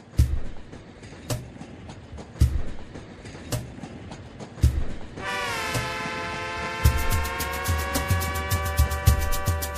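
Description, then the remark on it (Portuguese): A train rolls along the rails with a steady, rhythmic clack of wheels over joints, then a loud, sustained horn blares midway and holds to the end, with no voices. “Ia ser bom pra transportar o Brasil inteiro. Em Trinidad, quando o trem tá pra chegar”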